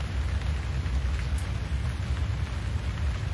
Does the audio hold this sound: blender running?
no